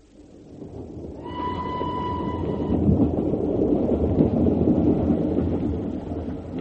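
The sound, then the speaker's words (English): A train rumbles along steadily, its heavy low roar swelling in and filling the scene, while a brief tonal whistle sounds near the start. No one speaks. “Thank goodness they reserved this compartment for us.”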